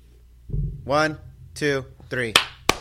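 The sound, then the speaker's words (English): A voice talks briefly, then two sharp, loud hand claps ring out in quick succession, each a single crisp snap, as people clap their hands for a camera on a count of three. “Everybody clap your hands real quick for me and camera.”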